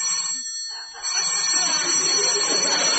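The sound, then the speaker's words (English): A newly installed telephone, put in by the phone company that afternoon, rings with a steady, high-pitched electric trill that runs the whole three seconds, joined after the first second by a rising wash of hissing background noise. “is that a telephone I hear?”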